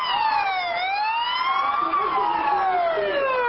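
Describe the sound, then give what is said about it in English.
Loud wailing sirens of two police cars, a fire truck and ambulances arriving at an emergency, sweeping slowly up and down in pitch, several overlapping tones rising and falling together, steady throughout with a faint road rumble underneath. “Minutes later, two police cars, a fire truck, and ambulances arrive.”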